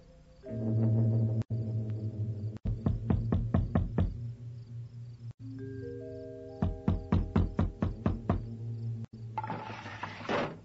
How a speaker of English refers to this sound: But they don't even have a light on. They're asleep. You'll have to knock on the door. Bell's broken.